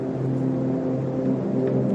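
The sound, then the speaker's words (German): A calm ambient music track generated by an algorithm that adapts to the listener's heartbeat, location, weather and activity: steady, sustained low tones layered into a smooth drone, holding at an even volume with a soft rumbling quality, no voices. “Beruhigende Musik, die genau an deine Situation angepasst ist.”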